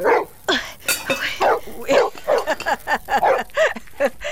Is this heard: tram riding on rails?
no